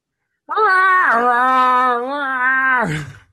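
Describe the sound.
A person's voice imitates a Godzilla roar: one sustained, harmonically rich wail lasting over two seconds, starting high, dropping in pitch, then holding steady before trailing off.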